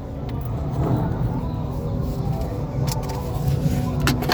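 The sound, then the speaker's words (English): A group of motorcycles idle and rumble as riders circle around a gas station with their music playing loudly, a steady, fairly loud low engine drone that never lets up, with a few brief sharp clicks and rattles scattered through it. “So I got a bunch of people on motorcycles riding around in the gas station here with their music wide open.”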